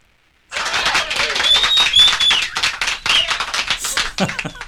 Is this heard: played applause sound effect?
yes